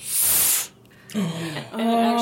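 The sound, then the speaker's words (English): A cork pulls free of a wine bottle with a loud, airy hiss lasting about half a second, followed by a brief pause and then voices talking. “That's a great cork pop.”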